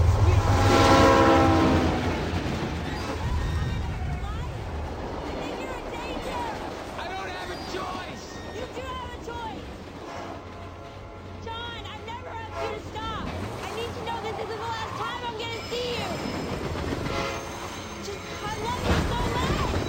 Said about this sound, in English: Be extra loud when the train passes by.